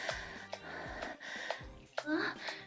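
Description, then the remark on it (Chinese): Heavy, deliberate panting breaths repeat in a loose rhythm, each exhale breathy and partly voiced like a soft gasp, with no spoken words. “看我魅惑的眼神，听着我故意的喘息，是不是特别有感觉呀？”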